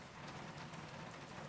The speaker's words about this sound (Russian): День был нехороший, шел дождь и уныло стучал в мои стекла.